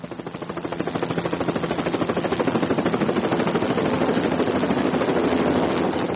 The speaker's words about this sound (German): Fliegende Kälber. Da rattert ein Hubschrauber über der Wettersteinalm am Felsen entlang.